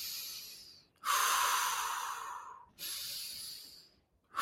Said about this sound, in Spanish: muchas personas no entran nunca en una hiperventilación y simplemente hacen una respiración más conectada, como por ejemplo.